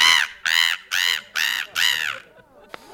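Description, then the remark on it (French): A person imitates a seagull, letting out five loud, harsh, evenly spaced cawing cries in quick succession, clear, followed by a brief quiet tail. “Moi, je fais le mouette.”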